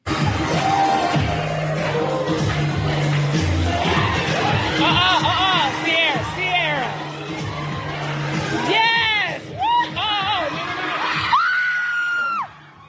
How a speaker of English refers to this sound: Now, what happened at that moment as that person screamed is she literally slips off the banister and it looks like she's about to plummet to her death. This is a high second floor.